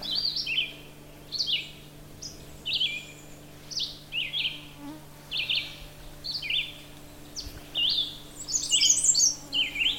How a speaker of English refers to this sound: The redstart is a warbler. I can actually see them. Beautiful. Black and orange and white on the belly. There he goes again.